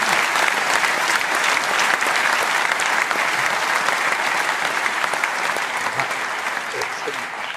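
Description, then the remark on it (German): Sustained, dense applause from a crowd: many hands clapping at once in a steady, loud wash of crackling claps that holds for the whole stretch and eases only slightly toward the end. “Und also für mich auf jeden Fall ein Applaus wert, weil das finde ich ganz, ganz stark.”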